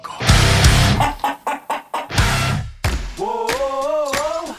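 Short, choppy clucks from hens come in quick bursts with noisy flurries between them, then a rooster lets out a long, wavering crow near the end, fairly loud.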